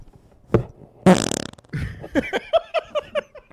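A short pop, then a loud, buzzy, sputtering fart lasting about half a second, followed by a burst of rhythmic laughter.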